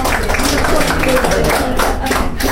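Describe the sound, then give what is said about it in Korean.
A group of people at a recovery group's meal gathering applauds steadily for a couple of seconds, a dense, even patter of clapping hands with some voices mixed in underneath. “그래서 음식 준비해 주신 어머님께 진심으로 또한 감사드립니다. 박수를 보내드립니다.”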